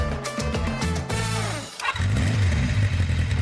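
A motorcycle engine revs up in quick throttle bursts, drops briefly, then roars back into a loud, steady rumble, with no voices.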